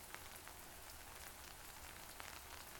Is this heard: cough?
no